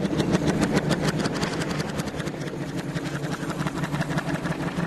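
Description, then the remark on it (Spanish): Heavy tractor engines rumble steadily, a dense, loud chugging with a fast pulsing rhythm that continues without a break and with no voices. “Retiraron los motores.”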